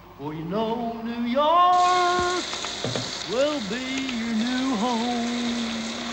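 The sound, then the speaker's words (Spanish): A steady hiss of shower water runs, growing fuller after the first second, while a man sings loudly under the shower with sliding, wavering notes. “Joe Buck canta bajo la ducha, está interpretado por ….”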